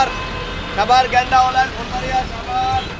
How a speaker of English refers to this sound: It's full of people. You hear rickshaws and cars. Buses are everywhere. There's a lot of traffic, a lot of fancy cars on the road as well